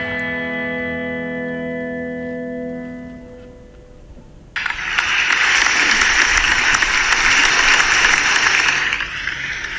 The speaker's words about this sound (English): This episode was filmed in front of a live studio audience. each week I'm going to come back with a different applause effect.